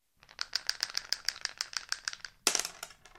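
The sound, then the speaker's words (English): Dice rattle rapidly in a cup for about two seconds in a steady clicking stream, then spill out with a louder clattering tumble. Fairly loud, with no voices. “Roll the dice.”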